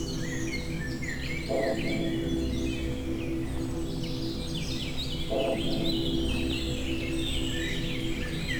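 Many birds sing and chirp together in a forest in the Creuse, France, between clouds and sun, with dense overlapping high-pitched trills and whistles over a steady low background hum, no voices present.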